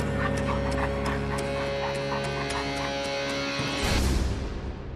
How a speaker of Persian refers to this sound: سگ آخر سوله بسته شده و زبونش رو بیرون آورده.